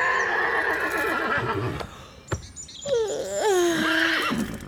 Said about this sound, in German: Am frühen Morgen weckt sie ein kräftiges Wiehern.